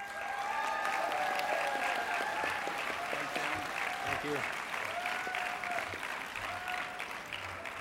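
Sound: audience applause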